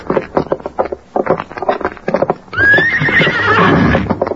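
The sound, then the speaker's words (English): In a Lone Ranger radio drama, as characters get to their horses, hooves clip-clop in a quick, steady rhythm for a couple of seconds, then a horse lets out a loud whinny that rises and wavers until the end. “Let's get to our horses.”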